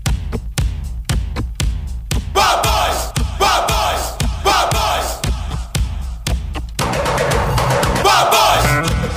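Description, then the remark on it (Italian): An energetic opening theme jingle, the show's usual unchanged theme: a steady pounding drum beat drives it, layered with loud crowd-like shouts and chanting, building to a denser, brighter burst in the final seconds. “Quindi lancio la sigla di oggi.”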